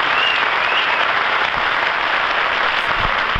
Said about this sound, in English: Bravo, bravo! That was nice. It sounded like they were clapping for Willow's answer.